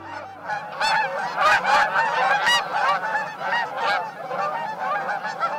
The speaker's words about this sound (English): Every spring, millions of birds, such as these large Canada geese, are on the move, heading north to their breeding grounds all across the North American continent.